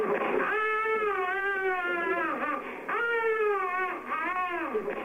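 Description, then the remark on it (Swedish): A malnourished infant cries in an unheated hospital in long, strained wails with brief catches of breath between them. The sound is continuous and fairly loud, with no talking. “I ett ouppvärmt sjukhus togs undernärda spädbarn emot av ett team från franska MSF, Läkare utan gränser, som djupt oroas över effekten av den svältkost som ransonerna reducerats till.”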